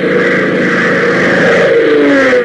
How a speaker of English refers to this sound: suddenly been interrupted by the arrival of a twin-engine C-47 transport at the Lakeville Airport